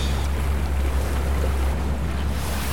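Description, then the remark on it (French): Steady rushing of sea water and wind around a sailing boat moving at about 5.5 knots toward Cap Couronne, carried by an old westerly swell in sunshine, with a constant deep low rumble and broad hissing wash, fairly loud throughout, no voices. “On a un vieux fond de houle là, de plein ouest, ouais, qui nous porte”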